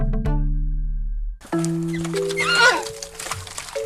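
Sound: horse neighing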